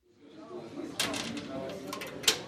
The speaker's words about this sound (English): The doors are locked behind us at Rescatados del Abismo, rescued from the abyss. This is a rehabilitation centre run by a Christian former addict on an ordinary street in the capital.